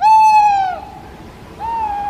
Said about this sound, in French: Alors, pour la petite information, l'oiseau qu'on vient d'entendre, parce que oui, c'est un oiseau, c'est une chouette-hulotte.